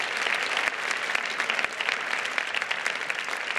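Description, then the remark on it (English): A crowd applauds steadily, many hands clapping in a dense, continuous patter that stays fairly even in loudness throughout, with no voices standing out. “Give a hand clap for Jesus if you're excited for sharing Jesus tonight.”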